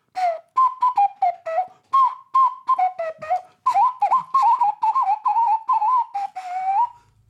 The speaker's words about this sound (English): Ocarina solo.